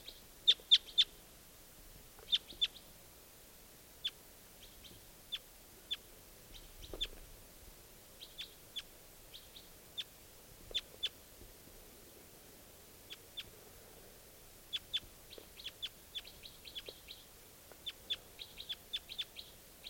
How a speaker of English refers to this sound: I think there might just be this one bird here.